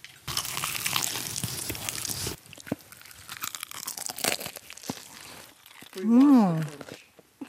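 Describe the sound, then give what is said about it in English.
A loud crunch of biting into a fried chicken drumstick from a fried chicken bucket combo meal, eaten without the gravy dip, crackling for about two seconds, followed by quieter chewing and an appreciative hummed murmur. “That crunch happened without the gravy dip.”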